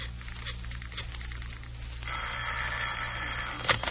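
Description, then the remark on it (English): A telephone bell starts ringing about halfway through, a loud, continuous metallic jangle over a low steady hum, cut by a short clunk near the end. No one speaks. “hand me that phone.”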